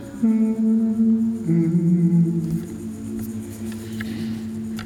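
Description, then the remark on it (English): Someone hums long, steady low notes, sliding to a different pitch partway through and then holding it, with no talking. “If you hum, there are all kinds of notes you can choose.”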